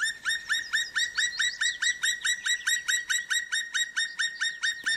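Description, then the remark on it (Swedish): A black woodpecker calls in a fast, evenly paced series of loud, ringing notes, about four per second, clear throughout with no other voices. “Och spillkråka.”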